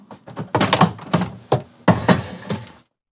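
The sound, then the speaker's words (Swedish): A door is handled and opened after the doorbell rings, with a series of solid thunks and clunks in an uneven rhythm, like a latch and the door moving, then quiet. “Det ringer på dörren.”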